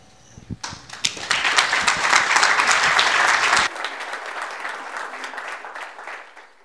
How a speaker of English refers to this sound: For the applause, so thank you for that. That was for God. It is for God, yeah.